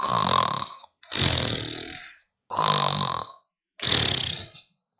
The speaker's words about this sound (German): …! … schnarchte.